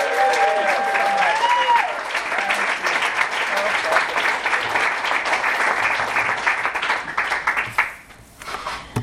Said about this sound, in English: Thank you. Let's give a round of applause to all three of our speakers.